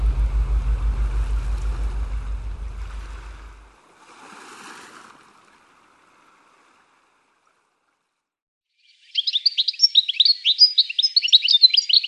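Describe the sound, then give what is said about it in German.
Goldfinches and meadow pipits chirping early in the morning by the Elbe, in a loud, busy burst of rapid, high twitters near the end, following a low rumbling wash of the Elbe's surf and a stretch of near silence. “Frühmorgens zwitschern dann Stieglitze und Wiesenpieper”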